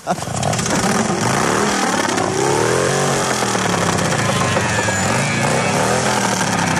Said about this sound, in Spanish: Venga, llegaron acá unos amigos carlistas, ¿sí? Entonces suenen esa moto ahora. A ver. Ya cuando la apagaron. Suénenla.